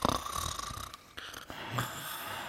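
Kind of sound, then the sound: vocal imitation, person imitating snoring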